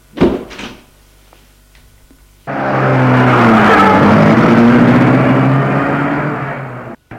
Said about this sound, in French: Et la voiture s'éloignait.